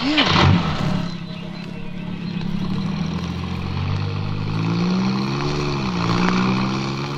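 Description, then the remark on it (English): An old car engine rumbles steadily, its low pitch rising and dipping as it revs and pulls away, loud and continuous throughout with no talking. “This jalopy should get us to Faversham in double quick time.”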